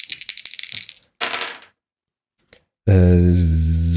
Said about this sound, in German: Irgendjemand schreibt bestimmt einen Zufallsgenerator, indem er sich diese Sendung anhört und das Würfeln einfach aufschreibt.